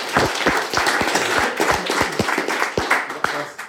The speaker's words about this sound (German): Aber ja, erstmal Applaus für diese Erfolgreichheit.